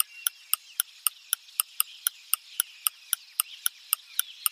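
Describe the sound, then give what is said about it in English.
A compass device ticks rapidly, faster and faster, sharp clicks about four per second, loud over a faint hissing background, with no voices. “The compass is ticking faster and faster.”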